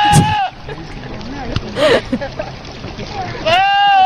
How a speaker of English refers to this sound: It was a goat yelling like a man. For real, it happened. I watched the video.